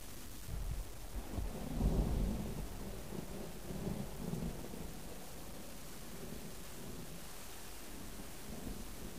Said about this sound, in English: I don't like the rain. Haven't for many years. You could almost say that I hate it, which is quite ironic for Singapore.